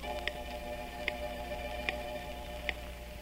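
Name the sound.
clock ticking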